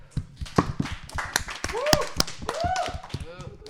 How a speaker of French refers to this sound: Et il a fait le taf comme un vrai pro, il n'y a eu aucun problème, aucun bug, il a géré ça comme un chef, donc je pense qu'on peut tous l'applaudir.